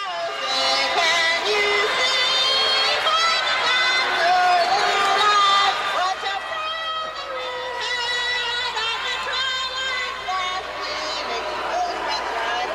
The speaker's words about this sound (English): All right, that's enough of that. As you can tell, the crowd was booing her, even. But at least she was screaming it.